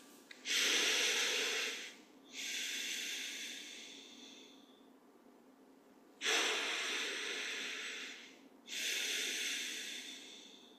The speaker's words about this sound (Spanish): Comenzamos haciendo un par de respiraciones profundas.